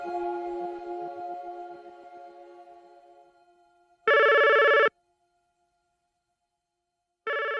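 A telephone rings in two loud, electronic bursts separated by a few seconds of silence, following a fading musical tone; nobody picks up and no one speaks. The call is to 73-year-old Eugene Garner, who is not answering his phone on May 21st, 2004.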